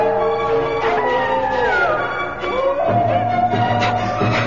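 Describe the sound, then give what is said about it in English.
Several overlapping howls rise and fall in long, wavering tones, one sliding downward while others hold higher pitches, forming a steady, mournful chorus of a wolf pack in snowy, ice-bound tundra over a low rumbling background. “But over the sound of crunching snow and the clanking of the broken slave chain still hanging from my wrist, there rose a more menacing sound. A sound that sent a chill through my bones. The howl of a wolf pack on my trail.”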